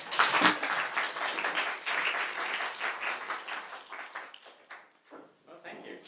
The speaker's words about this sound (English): Thanks. One round of applause.